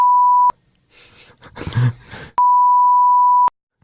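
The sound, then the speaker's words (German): Two steady, loud electronic beeps at a single pitch, a short one and then a longer one lasting about a second, with a brief breathy groan from a person in the gap between them. “Oh, jetzt haben wir hier alles, es ist schon wieder so eine reine Rumgepiepe hier.”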